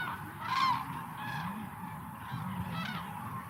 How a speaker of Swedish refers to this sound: Och ljudet av de här tranorna är fångat vid den fågelrika Hornborgasjön i Västergötland, där de stannar till och utför sin trandans.